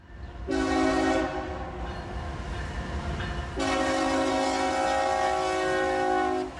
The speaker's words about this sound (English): In the Albany County Village, residents often wait beside the tracks on South Main Street for a chance to see a train pass by. But for some residents, like Stephen Schreiber, the rattling of trains and blast of their horns are a nuisance.